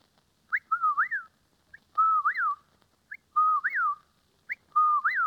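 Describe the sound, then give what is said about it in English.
A woman whistles an imitation of a whippoorwill's call, repeating the clear three-part phrase four times in a steady rhythm, loud with short pauses between repetitions. “The second is a whippoorwill.”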